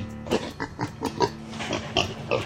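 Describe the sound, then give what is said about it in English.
A feral pig grunts and snorts repeatedly in short, irregular bursts, moderately loud, with no voices. “Opportunistic eaters, a campsite packed with trail mix and hot dogs, would be prize winnings for a feral pig, except they're not always welcome.”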